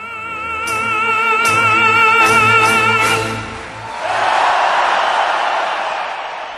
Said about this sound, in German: Jubel für Rolando Villazon, für den Komponisten Gioachino Rossini, für seine populäre La Danza.